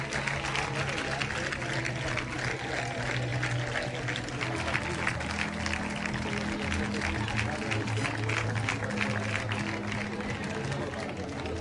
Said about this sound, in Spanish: Ya escucháis esa ovación, ese recibimiento a su llegada.